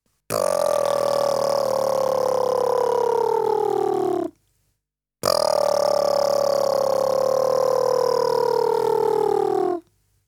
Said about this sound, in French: Faisons maintenant le même exercice que précédemment en utilisant le bourdonnement des lèvres.